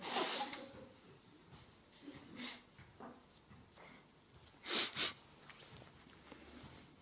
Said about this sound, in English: I'm going to sneeze, I'm sorry. Just when I was getting a head of steam up there.